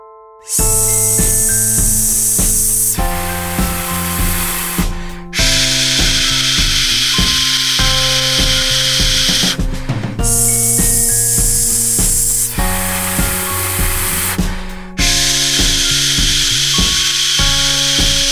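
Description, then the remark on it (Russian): Long, steady hissing 'sh' exhales in a breathing exercise: four sustained, even exhalations of about five seconds each with active abdominal muscles, separated by short breaths taken before the final 'sh', with a soft pitched tone running underneath. “В этом упражнении, если вам не хватает дыхания, можно брать его, например, перед последним звуком «ш».”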